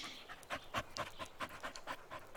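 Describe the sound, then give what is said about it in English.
A dog pants quickly and steadily, a rapid rhythm of breathy huffs repeating for a couple of seconds, fairly soft with no one talking. “I didn't know you guys had a dog.”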